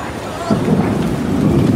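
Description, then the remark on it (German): Steady rain hisses across the whole recording as a dark sky turns into a small storm, while a deep rumble of thunder swells in partway through, rolling on low and heavy beneath the downpour, beside a subway station. “Der dunkle Himmel verwandelt sich jetzt in ein kleines Unwetter. Und jetzt regnet's.”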